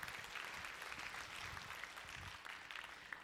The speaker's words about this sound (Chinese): Amen， 哈利路亚，拍手将荣耀归给神。